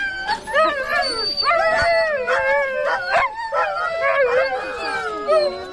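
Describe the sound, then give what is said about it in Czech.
A pack of about 20 husky dogs, waiting to be harnessed to a wheeled cart with room for only 6 dogs, howls and yips together in a loud, overlapping chorus, wavering wails layered with sharp barks, continuous for the whole stretch. “Jenže ve spřežení bylo místo jen pro 6 psů, takže jsme byli svědky obrovského psího koncertu.”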